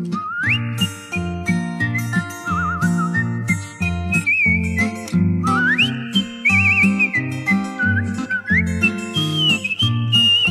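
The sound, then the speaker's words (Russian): A person whistles a bright, sliding melody with upward swoops and quick warbling trills, carried over a full, steady instrumental accompaniment at moderate loudness. “Подумал этот господин, и свистнул он собачке.”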